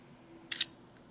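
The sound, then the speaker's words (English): A phone camera shutter fires once as the shutter button is pressed all the way to take a photo, a quick crisp double-click standing out against an otherwise quiet, faintly humming background with no one talking. “Press the shutter button halfway to get focus. Press it all the way to take the photo.”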